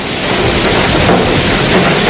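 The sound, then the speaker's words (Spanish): Loud, dense hail pelting down without pause in a hailstorm, with a deep rumble of thunder underneath. The roar is steady throughout, and no one speaks. “Mucha atención en la zona centro y en la mitad norte del país, porque se anuncian granizadas como estas que estamos escuchando.”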